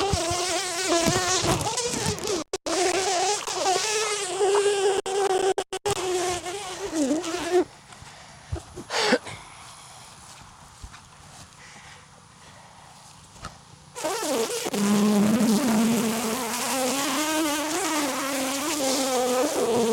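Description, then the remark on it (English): A dense, droning buzz of many honeybees swarming around an open hive, loud at first, dropping to a quieter hum midway, then swelling back to full strength. No voices. “Let's get the bees.”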